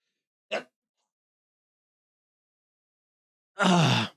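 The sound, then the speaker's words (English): A single loud, explosive sneeze bursts out after about three seconds of silence, preceded by a short sharp breath or catch near the start. “Oh, I sneezed.”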